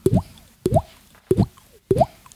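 Four hollow, watery plops land at a steady, evenly spaced rhythm, each a quick bright bloop with a rising pitch, clear with near silence between them and no talking.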